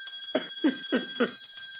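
bell ringing

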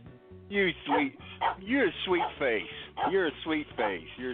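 dog barking and whimpering

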